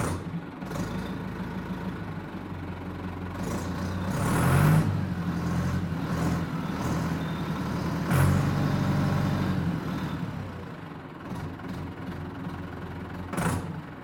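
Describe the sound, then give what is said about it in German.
A Fendt 306 LSA Turbomatic farm tractor's diesel engine runs steadily with a low, throbbing rumble, swelling louder twice with hissy bursts before settling back to an even idle. No one speaks. “Das hier ist ein Traktor, und zwar ein Fendt 306 LSA, Turbomatic.”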